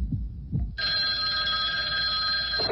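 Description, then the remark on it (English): A telephone rings loudly and continuously for about two seconds, a bright steady electronic trill, preceded by a couple of dull low thumps. No one speaks. “All right, let's go to the phones and see who's out there.”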